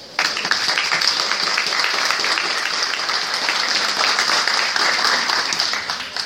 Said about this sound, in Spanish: Así que el primer aplauso va a ser para ustedes.